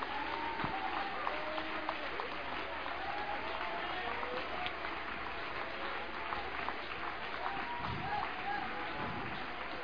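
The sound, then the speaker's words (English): An audience applauds steadily, a dense continuous wash of clapping from a large crowd that stays at an even loudness throughout, with faint voices mixed in beneath the applause. “Come on, applause, applause, applause.”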